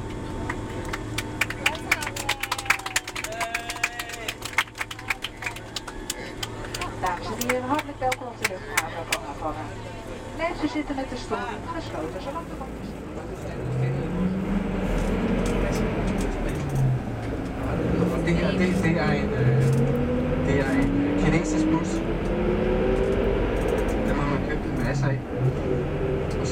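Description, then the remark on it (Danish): A charter airliner lands on a runway in Cuba and brakes: scattered clicks and rattles as the wheels bite the runway give way to a swelling low roar, with engine pitch climbing as reverse thrust builds and holds loudly. “Hjulene bider i landingsbanen. Piloten bremser charterflyet.”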